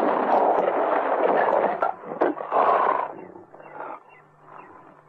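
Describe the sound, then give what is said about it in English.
A lion roars loudly for several seconds as it leaps, a sharp rifle shot cutting through midway, before the growling fades into lower, rumbling snarls. “He raised his rifle, and at that moment, the lion jumped.”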